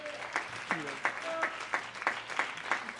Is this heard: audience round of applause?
yes